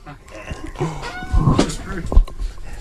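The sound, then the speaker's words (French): A chair creaks and squeaks in a few short, strained bursts as someone shifts their weight, with soft thumps of movement and a faint voice in the background. “Il faut que j'arrête de bouger, j'ai la chaise qui grince.”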